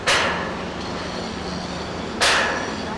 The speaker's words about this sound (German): Riesige Kräne heben Beton- und Stahlmatten in die Höhe. Scharen von Bauarbeitern hämmern, sägen und schweißen an einer gewaltigen Staumauer. Fast 2 Kilometer lang soll sie werden und 150 Meter hoch.